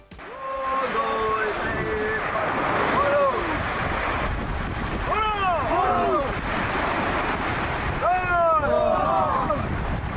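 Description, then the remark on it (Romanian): Steady rushing surf and gusting wind on the open beach at Mangalia during Hell Week at the Naval Special Operations training centre, with several loud voices calling and shouting over the constant noise. “Ne aflăm pe plaja din Mangalia, dar nu la plajă, chiar dacă ei sunt turiști, suntem la Săptămâna de Iad, aici la Centrul de Perfecționare Operații Speciale Navale.”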